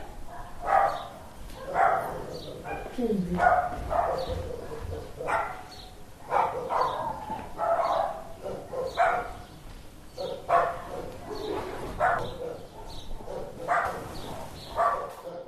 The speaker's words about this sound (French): C'est ça. Putain, les chiens, là.